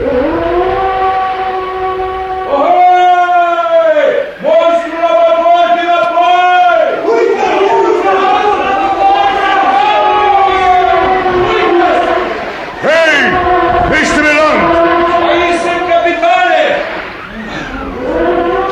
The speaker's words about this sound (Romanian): Ai auzit multe balene mugind? Multe, capitane, dar niciuna atât de tare ca asta.